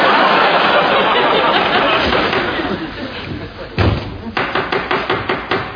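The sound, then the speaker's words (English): A single heavy thud, then a quick, even series of six or so sharp knocks on a door by arriving actors, following a dense, noisy wash of sound. “Is that the door?”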